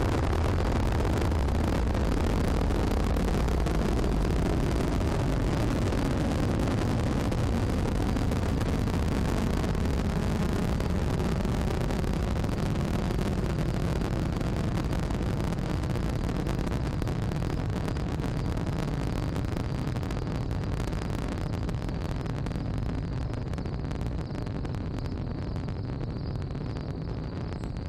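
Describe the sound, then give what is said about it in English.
A rocket engine roars at liftoff into the night sky, a loud, deep, crackling rumble that holds steady for the whole stretch, with its upper hiss thinning slightly toward the end. No voices. “5, 4, 3, 2, 1, and now you press the button and the rocket engine rumbles to life and the rocket begins to lift into the air, accelerating faster and faster as it travels into the night sky.”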